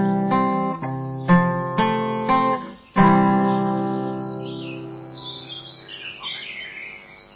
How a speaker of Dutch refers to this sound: En u hoorde de vogeltjes, en dat zijn dus de vogeltjes van de Hoornerboekse heide die u hoorde.